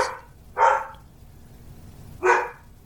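A dog barks a few times, single sharp woofs spaced well apart with quiet gaps between them, clear, with no one talking.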